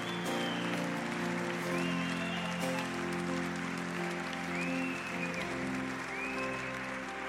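Steady, sustained applause from an audience, a dense crackle of many hands clapping at even loudness throughout, with soft sustained music playing underneath.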